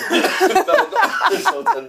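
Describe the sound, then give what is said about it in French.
A loud burst of repeated harsh coughs, about seven or eight in quick succession with a strained, rasping, partly voiced quality, like someone choking and struggling to clear their throat. “tu peux tousser”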